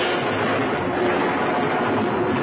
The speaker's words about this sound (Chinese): 雷声轰响，波浪在愤怒的飞沫中呼叫，跟狂风争鸣。